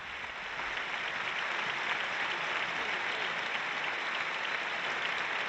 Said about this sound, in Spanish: Facundo Campazo, se llevan a Tomás Hielo. Esta es la ovación del Palacio.